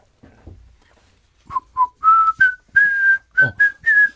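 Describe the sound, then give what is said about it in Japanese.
A person whistles a short melody, a string of clear, pure notes rising and falling in a steady rhythm, preceded by a faint breath and small noises. “うまいですか？ 口笛。俺ね、うまいって言われるな。”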